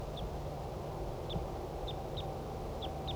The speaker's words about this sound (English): I'm now 10 meters from the wild bird. Wild male. Wild male.